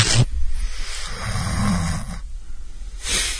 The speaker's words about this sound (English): What was that? It was just a noise to clear my throat.